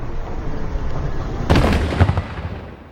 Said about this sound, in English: We've heard at least 20 loud explosions like that over the last 10 minutes or so. Here's another one.